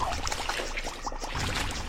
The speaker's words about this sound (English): Waterfall. Oh, so it chases you. You have to press either the left or right arrow and just rapidly keep tapping it so that the waterfall doesn't catch up. That's cool.